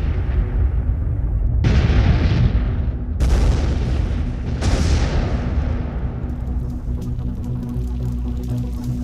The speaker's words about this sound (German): Kaum haben die Männer dieses verlassen, da explodiert es auch schon in einem gewaltigen Feuer.